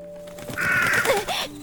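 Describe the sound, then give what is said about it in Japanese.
A single harsh, drawn-out crow caw rings out clearly in the middle of the night, followed by a couple of shorter rasping calls, heard alone over a faint steady hum. “カラス？”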